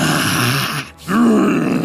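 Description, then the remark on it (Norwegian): A person imitates a growl with their voice in two low, rough, rumbling bursts, split by a brief pause, to start a growling contest in a role-playing game. The second is slightly louder, and no words are spoken. “Jeg initierer en knurrekonkurranse.”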